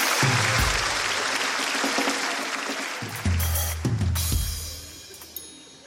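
An audience claps steadily for several seconds, a dense, loud wash of hands that stays fairly even throughout, with a low rumble underneath and no one speaking.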